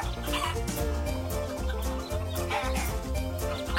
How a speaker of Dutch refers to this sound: De kippen vinden het graan erg lekker. En niet alleen de kippen vinden het lekker.